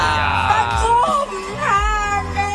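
A woman, a pageant contestant from Thailand, lets out a loud, sustained scream as her dentures fall out during her presentation. The scream wavers and slides up and down in pitch, breaking and restarting over a couple of seconds with no other voices.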